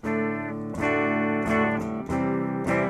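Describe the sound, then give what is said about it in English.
Clean electric guitar chords played straight through a California preamp with all dials at 12 o'clock, strummed roughly every three-quarters of a second, each one sustaining with bright, rich harmonics at an even, fairly loud level, with no voices. “That's the clean sound.”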